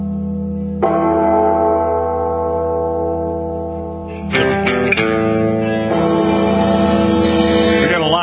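A deep, heavy bell tolls twice, several seconds apart. Each loud strike rings out with a long, resonant, reverberant hum that slowly fades, with no voices present.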